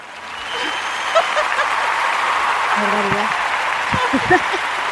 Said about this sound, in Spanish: Pues eso que es que no me acordaba que tenía aplausos y vamos a usarlos. Entonces así más arropadita.